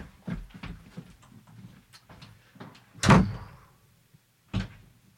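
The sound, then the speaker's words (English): A door is pushed shut with a loud thud, followed a second later by a softer knock, after some quieter bumps and shuffling. No one speaks. “Go outside and shut the door.”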